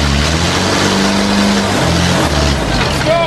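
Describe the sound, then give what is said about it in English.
A machine engine roars steadily at full throttle, loud, its deep droning hum unbroken for the whole stretch, with indistinct crowd noise blended underneath. “And the Muncher's still running at full tilt. Don't blow up the engine!”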